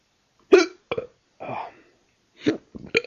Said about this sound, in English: Gave myself the hiccups doing that.